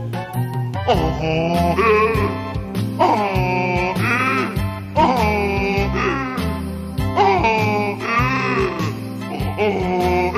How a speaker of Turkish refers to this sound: Bir eşeğe yakışır gibi var gücünle anıracaksın. Senin sesini duyan kaçacaktır can havliyle. Pek tabii ki düşecektir benim pençelerime. Eşek kabullenir derhal bu işi. Canı yürekten anırdıkça karışır ormanın içi.